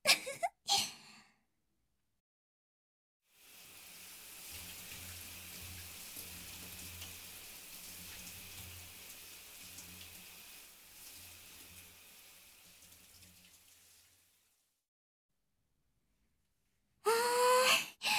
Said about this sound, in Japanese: そこのシャワーで体洗おっか。